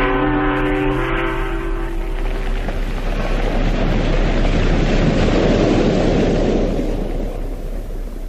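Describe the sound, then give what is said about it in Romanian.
Sea waves wash in a broad, steady roar that swells through the middle and eases toward the end, opening with a sustained low horn-like tone fading under the surf, in fog. No one speaks. “O știe numai marea asta afurisită.”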